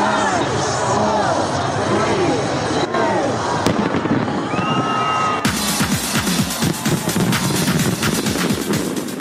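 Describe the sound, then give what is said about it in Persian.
New Year fireworks welcoming 2022 in Sydney, Australia, crackle and boom continuously, with bursts of popping and occasional whistling rockets, over a dense murmur of a crowd; the bangs grow sharper and more rapid toward the end. “شهر سیدنی استرالیا بانک بلندترین آمار مثبت ویروس کرونا را در یک روز ثبت کرد، با آتش بازی به استقبال 2022 رفت.”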